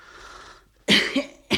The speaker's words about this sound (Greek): Βήξε, βήξε και ανάσαινε.